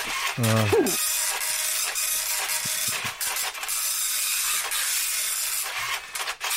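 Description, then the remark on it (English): A slow printer prints a document slowly and steadily, giving off a continuous whirring hiss with faint mechanical clicks; a brief vocal sound is heard near the start. “I'm going to print it off now.”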